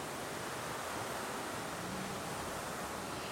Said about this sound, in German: Erde und Wasser gehören zusammen. Das demonstriert der Spritzbrunnen Esperanza auf eindrückliche Art, wie wir gerade gehört haben